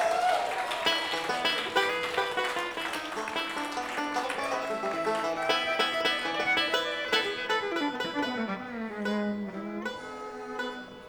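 Steady crowd applause at a live bluegrass show, a dense crackle of many hands clapping, runs for several seconds with music playing alongside, gradually thinning toward the end.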